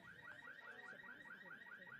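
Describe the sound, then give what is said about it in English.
A car alarm in a baseball park's parking lot, set off by a foul ball, blares a rapid, repeating electronic whoop. It cycles about five times a second in a steady rhythm, with a faint wash of background noise and no talking. “Sets off someone's car alarm, as you can hear.”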